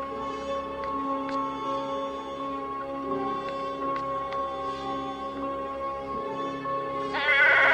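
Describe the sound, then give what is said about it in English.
A goat named Alfred bleats loudly and continuously in the basement of a large stone house, a wavering, nasal cry that grows harsher and more strained toward the end, with no talking. “Tia jumps, seeing the goat.”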